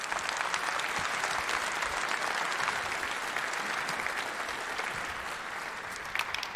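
An audience claps steadily in the early morning to welcome the next two speakers of a talk, a dense wash of many hands at an even loudness that holds for several seconds, with a few sharper claps standing out near the end. No one speaks.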